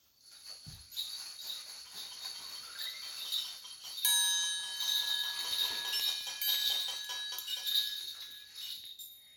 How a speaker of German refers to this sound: Überall ertönten Glocken um weihnachtliche Klänge.